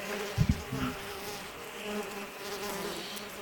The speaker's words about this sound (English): We have a colony of bees that we travel with, and they're getting a little bit dirty from the road, and we were hoping we'd be able to shower them off when we stop at the rest stop there.